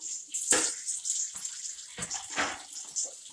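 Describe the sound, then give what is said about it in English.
Water runs steadily from a tap, splashing and spattering unevenly as a pasta colander is rinsed under the stream, with brief louder bursts where the flow hits metal. Fairly loud, no talking. “I'm just doing the colander from my pasta.”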